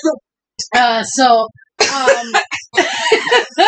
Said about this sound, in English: everybody's coughing off of the bong, guys. You know, you might as well get used to that sound.